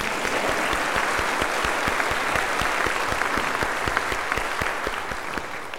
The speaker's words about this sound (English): And also, we would like to, oh yeah, we can clap for them.